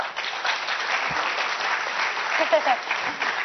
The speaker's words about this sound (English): I know you can clap better than that, but anyway.